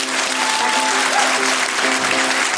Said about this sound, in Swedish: Tack så jättemycket för att ni kom ikväll. Fy fan vad roligt att inleda turnén här med er. Ni har varit toppen, underbara. Ja, er själva en jättevarm och stor applåd.